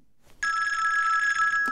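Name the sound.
telephone bell ringing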